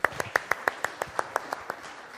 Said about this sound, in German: Nochmal Applaus.